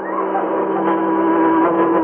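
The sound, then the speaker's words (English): The Green Hornet's car goes right past on the other side of a wall, sounding an odd horn: a loud, steady, multi-toned blare that holds unbroken for about two seconds over a rough engine rumble, with no voices. “It didn't sound like no car I ever heard. That horn.”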